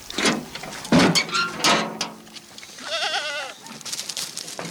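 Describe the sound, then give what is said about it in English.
About a dozen sheep bleat as a woman releases them from a side gate and pushes them along with a stick toward fields to graze: a few overlapping quavering cries in the first half, then a wavering, higher bleat near the end, with rustling and shuffling noise around them. “releases a dozen sheep from a side gate and pushes them along with a stick.”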